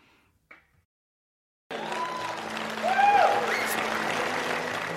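Brief quiet with a faint thump, then a crowd bursts into sustained applause with scattered cheers and whoops rising over the clapping, holding steady to the end.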